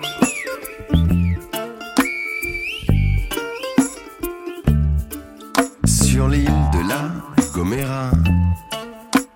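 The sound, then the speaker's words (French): Shrill human whistles in the Silbo whistled language, a Guanche whistling an invitation to dinner, glide and hold at high pitch in short, speech-like phrases, ringing over a loud rhythmic backing of low thumping beats and busy instruments. “Entre deux montagnes amarrées aux nuages, un guanché siffle pour s'inviter à dîner.”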